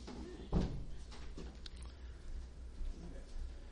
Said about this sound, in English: Can you shut that door and as loud as you can say, shh?